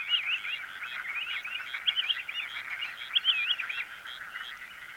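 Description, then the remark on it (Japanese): A dense, unbroken chorus of frogs trills and chirps across a rice paddy in Matsudo, Japan, by the Edogawa River, a steady shimmering wall of calls at moderate volume with small swells, no voices present. “東京湾から江戸川に沿って飛ぶ渡りのコースがあるようで、川沿いで最初の浅い水辺はここ松戸の田んぼ。”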